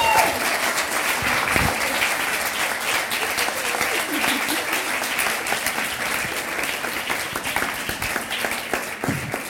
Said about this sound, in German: Dankeschön, das ist dein Applaus und deine Willkommenstüte.